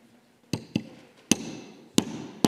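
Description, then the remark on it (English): Five sharp blows from a small hammer strike something solid, loud, in an uneven rhythm: a quick pair, then three spaced hits with ringing overtones fading between them. No one speaks. “This is my hammer. It's a smallish hammer to be sure, but, well, watch.”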